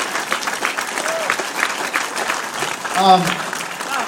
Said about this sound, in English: That's an applause line, absolutely, please.